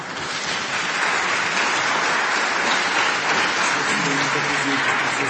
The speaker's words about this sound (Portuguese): As palmas serão devidamente descontadas ao tempo.